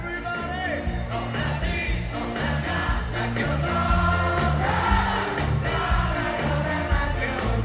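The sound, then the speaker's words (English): A club crowd at the 930 Club sings along loudly over a band, a dense wall of many voices carrying the melody over steady drums and bass for the full length, with occasional whoops rising above. “And the crowd here at the 930 Club is proving my theory at the top of their lungs.”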